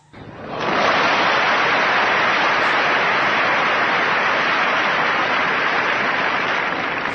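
A crowd breaks into applause for the Sea Shepherd association. The applause swells within the first second, then holds as a dense, steady wash of clapping for several seconds with no voices over it.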